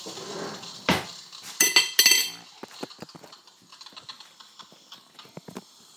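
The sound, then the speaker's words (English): Cutlery clatters as a drawer of utensils is rummaged for a clean knife: a sharp metallic rattle and jangle early on, then a run of lighter clinks and taps fading out, with no voices. “I want a clean one. I don't know why I threw the knife in the sink, because I needed one to cut my sandwich in half.”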